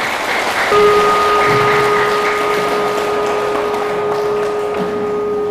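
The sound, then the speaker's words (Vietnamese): A crowd claps loudly and steadily for several seconds, a dense, even wash of applause with a faint sustained electronic tone running underneath. “Nếu dễ thì hãy cho một tràng vỗ tay thật lớn nào.”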